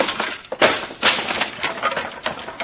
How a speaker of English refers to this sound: Now I'll rip the lining out of this trunk.